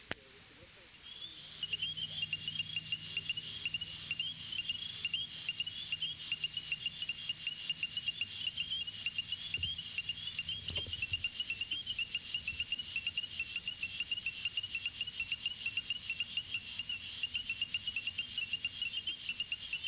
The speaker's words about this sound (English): The ornate chorus frog, Pseudacris ornata, occurs from central Florida northward. Its call is a sharp note, which is heard here with the whistles of spring peepers in the background.